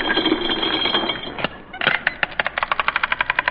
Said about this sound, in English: Well, if we got money, I'll show you. I'll open my wallet.